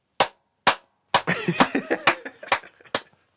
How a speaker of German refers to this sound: Ich dachte, du wolltest eine Klappe zur Synchronisation machen, aber du wolltest einfach richtig solidarisch klatschen. Das ist doch cool.